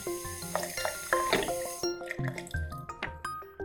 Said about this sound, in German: Denn es ist ein echter Schatz, der da aus der Tiefe kommt und so selbstverständlich aus dem Hahn strömt.